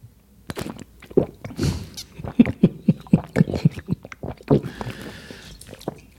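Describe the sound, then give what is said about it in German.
Wet, smacking chewing noises with squishy bites and a gulping swallow, performed as a demonstration for people with misophonia, repeating in an irregular rhythm of short bursts, fairly loud and with no talking over them. “Wenn man jemanden umbringen möchte, weil er Schluckgeräusche macht”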